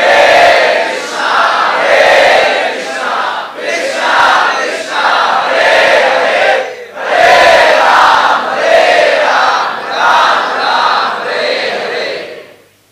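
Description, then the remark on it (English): A large crowd chants the holy names together in loud, rhythmic unison, voices rising and falling in repeated phrases with brief pauses, the sound full throughout. “With this spirit, we are together to chant the holy names.”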